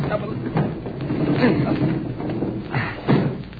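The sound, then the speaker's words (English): A window frame is pressed on and pushed upward to open it in a few heavy strains: dull wooden thumps and scraping bumps over a steady rough rumble, the loudest knocks landing near the middle and at the end. “I guess we can just press against the frame and push up.”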